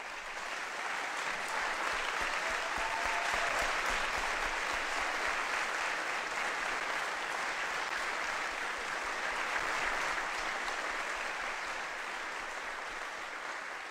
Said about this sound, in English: I ask you to give her a big round of applause.